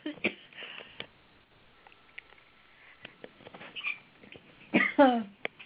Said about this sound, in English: I'm sorry. Bless you. Choking.